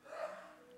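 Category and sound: human body sound, sneeze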